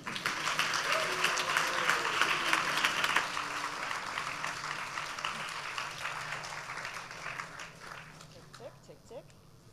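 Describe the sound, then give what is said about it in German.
An audience breaks into sustained, roaring applause to welcome three speakers at the start of a talk, a dense wash of clapping that holds steady for several seconds and then gradually thins out and fades toward the end. “Und deswegen wünsche ich mir von euch allen, dass wir sie mit einem tosenden Applaus begrüßen und es losgeht.”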